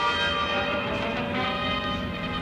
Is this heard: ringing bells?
yes